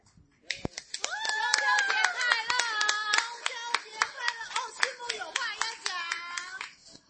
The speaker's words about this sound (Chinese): 我们再拍手一次哈，为今天预备节目的弟兄姐妹